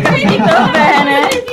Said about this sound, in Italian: Un applauso.